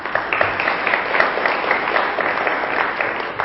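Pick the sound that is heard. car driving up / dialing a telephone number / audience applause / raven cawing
audience applause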